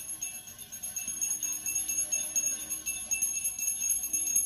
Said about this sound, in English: So we do this at 7 o'clock every night, and a lot of appreciative people on the streets of 80th and 79th come out and ring a bell or two. Clap.